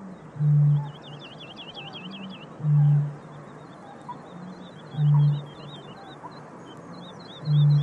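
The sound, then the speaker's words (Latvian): A very low-frequency, deep, hollow booming bird call repeats four times at a slow, steady pace, each boom loud and short, with faint chirping birds twittering high in the background. “Tā frekvence ir tik zema, kad viņa principā prasa liela diametra atskaņotāja, kas spēj ievibrēt to gaisu tik zemā frekvencē.”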